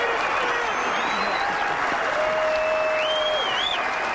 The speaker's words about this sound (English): Applause went on for more than 5.5 minutes after Nicklaus teed off in competition for the last time.